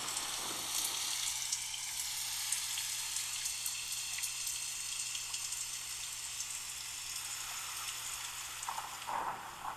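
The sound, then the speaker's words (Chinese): Steady rain falls continuously, a dense hiss of countless drops pattering on a surface, even throughout, with a faint low hum underneath and no voices. “这两日怎么老是下雨啊？”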